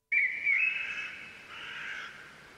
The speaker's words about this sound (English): Third one is a little bit different. It doesn't have that background. It's forest sounds.